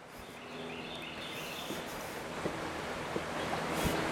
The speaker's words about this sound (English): This water is flowing. It's a river.